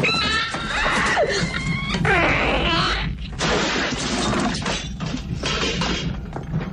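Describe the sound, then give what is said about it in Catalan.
A shrill, wet creature shriek with rising, warbling squeals over a dense churn of crashing, squelching noise, loud and continuous for several seconds before breaking into choppy bursts: the alien monster bursting from John Hurt's stomach in the 1979 film Alien. “I així és com vèiem i sentíem per primera vegada aquell monstre que sortia a l'estómac de John Hurt l'any 79, que feia un cert fàstic”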